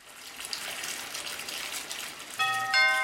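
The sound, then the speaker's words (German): Water gushes steadily into a bathtub as it fills, and near the end a doorbell at the front door chimes two bright notes, the second louder, ringing over the running water. “Aber da klingelt es an der Tür.”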